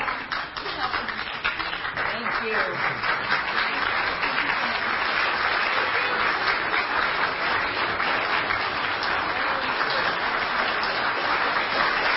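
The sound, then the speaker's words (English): Sustained applause from an audience after a group bow fills the full twelve seconds, a dense, steady wash of many hands clapping with no clear pauses. “Let's give it another group bow and another applause.”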